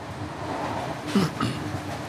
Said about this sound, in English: On a train.